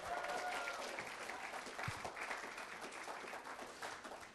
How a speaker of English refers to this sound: Oof! Yes! Round of applause for Jesus' side.